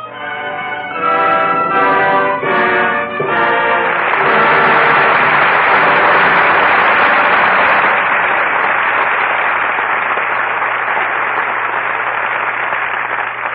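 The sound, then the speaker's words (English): A few seconds of music give way to a long, loud burst of audience applause at the close of the play Lydia, a dense steady clatter of many hands clapping that holds without a break to the end. “Your applause rings down the curtain on Lydia, and some acting we won't soon forget.”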